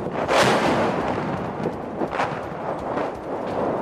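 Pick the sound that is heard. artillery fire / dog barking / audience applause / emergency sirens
artillery fire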